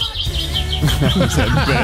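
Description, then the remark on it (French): Sparrows flocking to a home chirp in quick, repeated bursts, a lively twittering that continues throughout, with a person's voice starting to talk over it partway through. “les moineaux continuent d'affluer chez Johan pour répéter leur meilleure vocalise”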